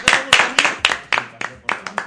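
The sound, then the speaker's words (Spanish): An audience applauds in a quick, steady rhythm, about nine crisp, loud claps in two seconds, as if clapping together in time, with no voices on top. “Otro aplauso.”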